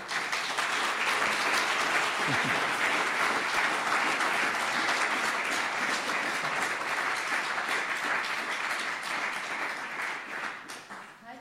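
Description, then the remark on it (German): Sustained audience applause at the end of a talk, a dense wash of many hands clapping at steady loudness for about ten seconds before tapering off slightly at the end, with faint murmuring beneath. “Ja, das war der Applaus.”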